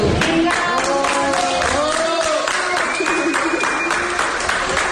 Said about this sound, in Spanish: Una persona de edad avanzada también, y que después de muchos días de unidad de cuidados intensivos salía con ese aplauso de la unidad de cuidados intensivos.